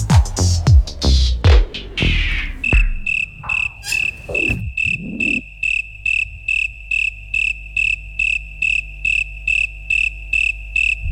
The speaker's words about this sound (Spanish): Todavía hace sol, todavía no es momento, ¿no?, para los grillos. Pero esta canción es lo que nos propone, ¿no?, que escuchemos grillos, y así se llama.